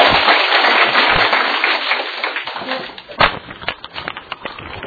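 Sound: audience applause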